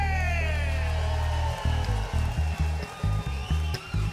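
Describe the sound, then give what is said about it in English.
A loud crowd cheers and whoops, welcoming a man introduced as the arranger of a piece performed that night, with many voices yelling over each other. Halfway through, a heavy rhythmic thumping starts up beneath the continuing cheers. “Ladies and gentlemen, make him welcome”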